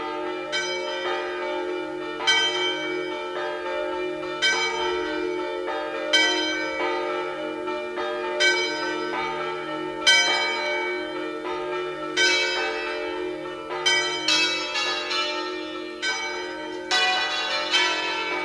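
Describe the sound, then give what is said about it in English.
Bells ring in a steady, repeated pattern, each strike blooming into a long resonant hum that overlaps the next. The peals are full, with no voices present. “near and far, the bells are ringing.”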